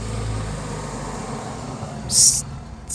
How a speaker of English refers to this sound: Thanks a lot, Mr. Pickup Truck.